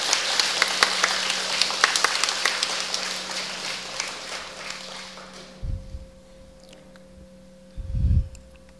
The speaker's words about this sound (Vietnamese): Hãy dành một tràng vỗ tay thật lớn nào.